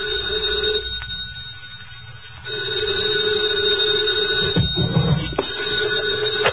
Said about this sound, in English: 2 o'clock in the morning, the phone rang.